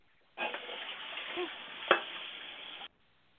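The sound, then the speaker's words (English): A woman washing her dishes: a steady rush of running water for about two and a half seconds, with one sharp clink of crockery partway through, then silence. No voices. “She washing her dishes.”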